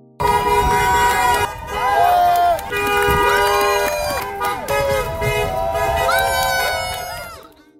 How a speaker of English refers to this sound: The rally brought out only about 50 people, but a chorus of horn honking from drivers passing by.